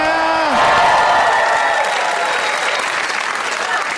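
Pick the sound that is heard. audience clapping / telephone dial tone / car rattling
audience clapping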